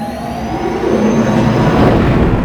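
A loud, steady engine roar swells and rumbles continuously as a spaceship's lightspeed engines engage and the vessel reaches light speed factor 4 on its way to Phaedos, with a low hum and faint whining tones riding above it.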